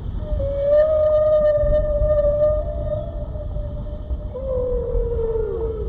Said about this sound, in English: That's whale for please, no, not my brother, Jonathan, no!